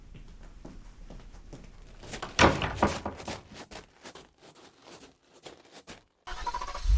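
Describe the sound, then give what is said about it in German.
A limousine door clicks and thuds open as the driver opens it, amid low engine rumble, followed by shuffling and rustling movement, then a steady idling hum resumes near the end. No one speaks. “Der Fahrer huschte um die Limousine, öffnete die Tür.”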